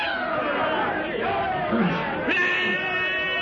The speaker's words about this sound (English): In the Gregory camp, a native bearer runs amok and charges the group of whites gathered about their campfire. Tarzan's companions stand petrified as the crazed black bearer, brandishing a heavy spear, leaps toward the man with a blood-curdling yell.